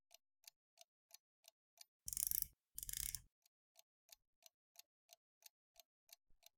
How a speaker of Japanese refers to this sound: もうすぐ秒針が一周するわよ。